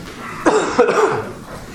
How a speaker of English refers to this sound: You'll have to excuse my cough a little bit. I get this every year, and if I'm not careful, I get bronchiolitis, and so I have a little bit of a cough, and I don't mean to cough.